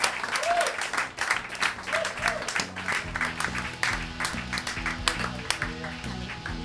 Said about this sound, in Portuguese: E un placer, un aplauso para todos, non?